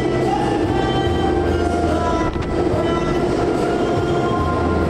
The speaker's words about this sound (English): It's a little bit of JR karaoke al fresco with the wind, water, waves, and the enormous sound of one of the thrusters that keep us on site.